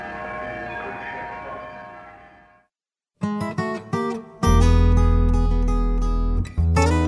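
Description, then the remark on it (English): Church bells in Sitka, Alaska ring with layered, sustained tones that fade away to silence, then loud music with heavy bass begins after a short pause. “He and Father Sergius also hope to create a program to allow major donors, even those who don't read music, a chance to play the bells.”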